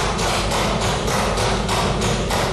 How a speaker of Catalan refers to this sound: Han interromput el minut de silenci pegant cops amb el bolígraf damunt la taula del seu escó. Era Sergio Rodríguez.